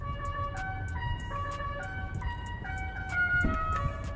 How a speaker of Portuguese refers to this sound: Dá até para escolher o barulho. E dá até para você personalizar a buzina. Você vem aqui, escolhe o barulho que você quer. Eu escolhi o La Cucaracha e olha só.